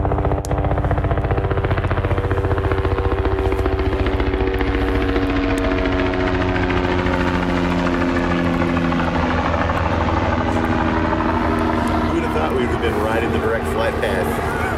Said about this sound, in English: There's the helicopters. Black helicopters are coming over top of us.